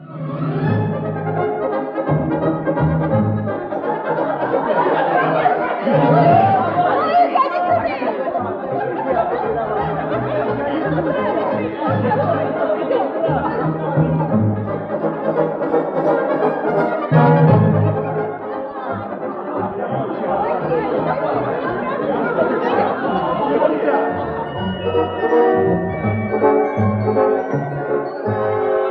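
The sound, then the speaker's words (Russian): A large crowd's chatter in St. Peter's Square, Rome, in the early evening of 28 October 1958: a dense, steady murmur of many overlapping voices with scattered laughter rising now and then, continuing without pause throughout. “Рим, площадь Святого Петра, ранний вечер 28 октября 1958 года.”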